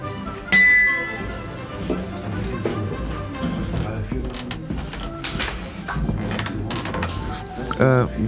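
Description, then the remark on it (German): Glasses clink together once in a toast, a bright ringing chime, amid restaurant clatter and murmuring voices, with further faint dish and cutlery clinks following. “Na, denn auf Ihre gute Nase. Prost.”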